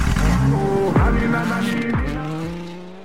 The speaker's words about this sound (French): C'est juste une voiture qui démarre et la musique derrière?